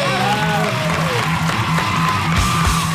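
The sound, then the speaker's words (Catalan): A crowd gives another round of applause, clapping and cheering loudly and steadily, with whoops and shouts rising over a dense wash of applause that never lets up across the few seconds. “Doncs ara un altre aplaudiment per la gent de la ruïna de l'Ignasi Taltavull i el Tomàs Fuente!”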